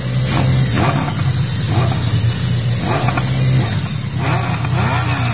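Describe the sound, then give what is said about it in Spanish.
Loud engines rev continuously, the pitch rising and falling in repeated surges as motorcycles pull in, with a steady low rumble underneath and no voices. “Están llegando con sus motos.”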